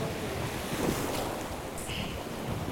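nature, river water flowing

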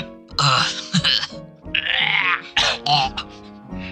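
human body sound, coughing and throat clearing

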